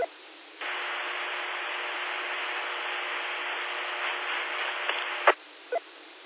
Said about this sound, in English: It kind of sounds like there might be a fan running in the back in the room or something, but the hum is not on there tonight.